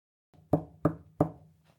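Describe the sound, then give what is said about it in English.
Three firm knocks on a front door in quick, even succession, each with a short hollow resonance, with no voices around. “Tim knocked 3 times on the front door.”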